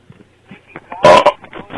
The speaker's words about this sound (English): He just burped at us. And then farted, I think.